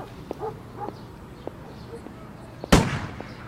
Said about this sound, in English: Do you hear that? They're shooting the scavengers, the wild goats and pigs. They were supposed to eat the garbage in the city streets, but they keep coming into the park to eat the grass. So they have to shoot them.